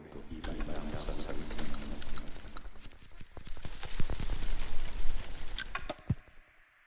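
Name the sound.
water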